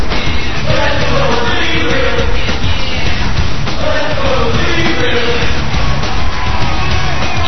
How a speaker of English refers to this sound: Flanking the entranceway, the crowd begins to chant.